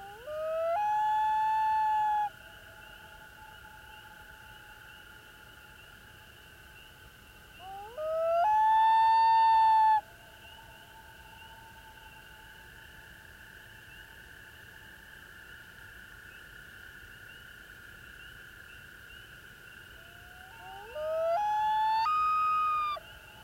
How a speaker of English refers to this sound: Loons also make calls that may be mistaken for the howl of a wolf. This is the wail of the loon.